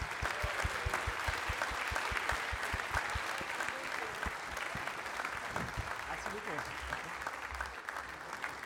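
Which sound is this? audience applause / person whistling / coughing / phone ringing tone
audience applause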